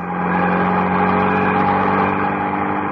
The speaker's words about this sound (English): Mrs. Peel slowed down. The other car slowed down. Mrs. Peel accelerated. The other car did the same.